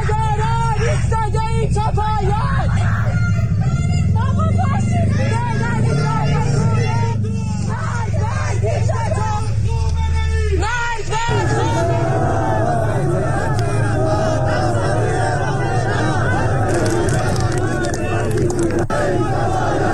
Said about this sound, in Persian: بنابر ویدیوهای دریافتی، نقاطی از شهر اصفهان نیز شاهد راهپیماهای اعتراض‌آمیز که مردم معترض شعارهای ضد حکومتی سر می‌دادند بود. جمهوری اعدامی، بوق بزن، خامنه‌ای بی‌ریشه، خیزش ادامه داره.